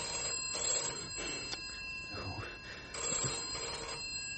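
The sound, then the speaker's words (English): An old-style telephone bell rings insistently in bursts, a bright metallic trill, while voices talk indistinctly underneath. “Well, it'll go on ringing until you answer it.”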